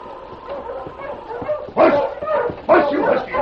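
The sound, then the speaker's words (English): Several sled dogs of a dog team pulling a sled along a rock-studded trail rimming Eagle Canyon bark and yip together in a busy, overlapping chorus, with two louder surges of excited barking breaking out near the end. “Slugger, Metz, and Jeb drove the dog team and sled along the rock-studded trail that rimmed Eagle Canyon.”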